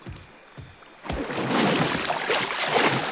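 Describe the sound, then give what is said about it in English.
Water sloshes and splashes, starting with a few soft knocks and then swelling into a steady, fairly loud churning of disturbed water as a man hops out of a small inflatable dinghy into the water beside a wall to set dynamite. “hops out of an inflatable dinghy into the water beside the wall to set some dynamite.”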